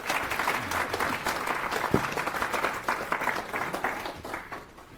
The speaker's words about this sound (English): Have a big round of applause, please.